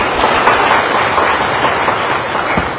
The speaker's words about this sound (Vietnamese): Một câu tuyệt vời cho chàng pháo tay đi.